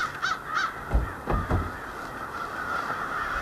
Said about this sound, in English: And there are probably thousands of birds just in all of the trees along the river.